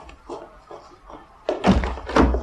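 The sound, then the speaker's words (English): Knocking on a front door: a few soft, muffled taps, then two or three louder, heavier thumps that sound insistent, with no voices over them. “Gladys, go and see who it is at the front door.”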